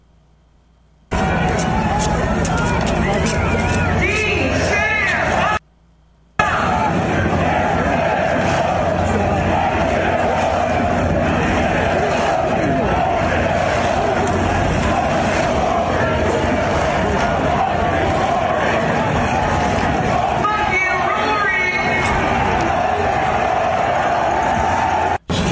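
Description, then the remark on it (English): A big, drunk home American crowd chants and roars, loud and sustained for over twenty seconds, with whoops and shouted cries rising above the dense wall of voices, as a female MC introducing the players fires the crowd up. “And in this case, trying to get the home American crowd fired up. And listen to how she got the crowd fired up in this spectacular moment.”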